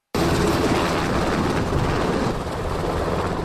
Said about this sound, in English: Four Black Hawk helicopters lift off from the Wheeler Sack Army Airfield on Fort Drum, carrying a group of public officials and journalists. They move beyond the perimeter of the base, their shadows racing along the vast North Country farmland.